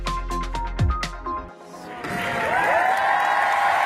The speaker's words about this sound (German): Das ist der Jubel von Paris. 10 Jahre ist das jetzt her. So ist die Klimakonferenz, der Klimagipfel in Paris 2015 zu Ende gegangen.